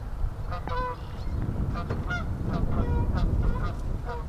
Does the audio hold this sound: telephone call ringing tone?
no